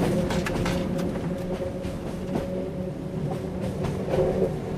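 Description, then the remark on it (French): Steady, loud rumble of the Train Jaune, an electric train drawing power from a third rail like the Paris metro, running, heard from on board, with a constant mechanical hum and occasional rattles and clicks from the wheels, no voices. “vous nous avez rejoint à bord du train jaune”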